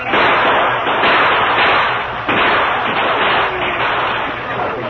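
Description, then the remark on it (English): A continuous, loud barrage of gunfire with sharp cracks over a dense roar of battle noise as Apaches attack a stockade, and a heavy slam about halfway through as the stockade gates are closed after a wagon is pushed inside. “Under cover of constant gunfire, the wagon was hurriedly pushed into the stockade, and the gates were closed.”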